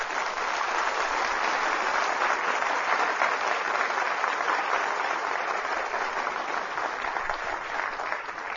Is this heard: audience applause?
yes